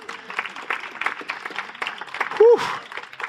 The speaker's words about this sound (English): And that is worth a round of applause, is it not?